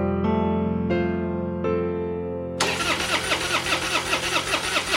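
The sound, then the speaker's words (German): A car engine cranks with three rhythmic starter bursts, then catches and roars into a steady, rumbling idle. No voices are heard. “Will auch mal lenken. Lenken, Auto fahren.”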